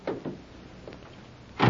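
A police radio car door clicks open with two quick knocks, then after a short pause slams shut with a louder, fuller thud.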